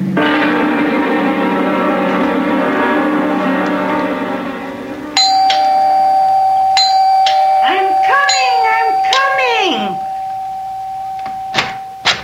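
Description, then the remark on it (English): A doorbell rings insistently in long, unbroken buzzing bursts, one ring running straight into the next, loud, while voices briefly speak over the later ring. “Have to rip the bell off the door, young man.”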